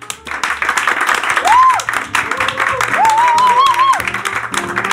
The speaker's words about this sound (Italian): e grazie a tutti gli ospiti che sono già qui, ma soprattutto agli impavidi spettatori che sono amici, parenti, insomma, che sono venuti qui a seguire. Fatevi un applauso.